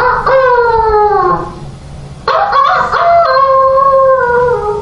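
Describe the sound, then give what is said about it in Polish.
A female prisoner at the Majdanek camp loudly imitates a rooster crowing as a radio jingle, twice in a row: a long, drawn-out call with a falling pitch, a short pause, then a second, similar crow, clear. “Miały swoje charakterystyczne elementy, na przykład taki, powiedzielibyśmy dzisiaj, dżingiel radiowy, czyli pianie koguta, który wykonywała jedna z więźniarek.”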